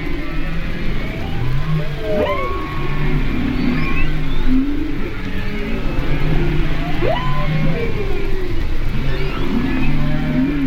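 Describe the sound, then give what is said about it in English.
Humpback whale calls sweep and moan underwater, with rising and falling tonal cries and low groans repeating over a steady crackle of snapping shrimp and a low rumble. “In addition to the humpbacks, you can even hear shrimp, he says, and possibly other cetaceans.”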